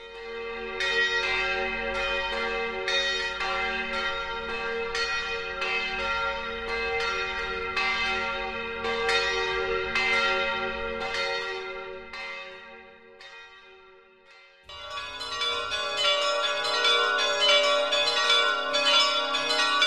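Church bells ring out in a steady, overlapping peal, strikes repeating roughly every half second with long shimmering decay; after a brief lull near the end, a brighter, fuller peal resumes.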